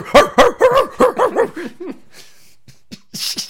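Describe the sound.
A person imitates a dog with a quick run of about eight or nine yappy, voiced barks, loud, tapering off into a few soft clicks and a breathy noise.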